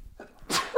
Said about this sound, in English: Bless me. I had a sneeze.